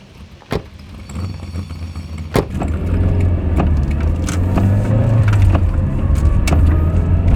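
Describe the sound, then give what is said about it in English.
A car with luggage loaded in the boot drives along after a passenger gets into the front seat. Its steady low engine drone builds after a couple of sharp thumps, like a door shutting, then holds at a loud, even level throughout. “Well, get in the car and fasten your seatbelt.”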